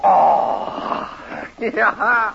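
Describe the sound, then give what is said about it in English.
A cowboy's voice howls like a cougar, a long loud wavering cry followed by a few shorter rising and falling yowls, with no other sound behind it. “Hey, hear the cougar howl tonight.”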